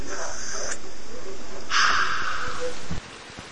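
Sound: flowing river water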